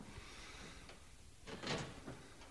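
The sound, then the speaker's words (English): A few sharp knocks on the door of Rhondda Radio, irregularly spaced and moderately loud, over a steady low background hum with no voices. “Okay, well, let's knock on the door.”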